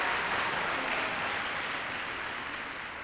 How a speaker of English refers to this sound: And that's our dazzling dolphin show! Let's give Doris and her dolphin friends a big round of applause!